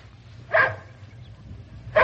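dog barking

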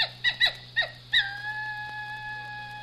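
dingoes howling

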